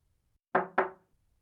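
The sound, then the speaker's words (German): Two firm, loud knocks on a door in quick succession, followed by silence. “Es klopft.”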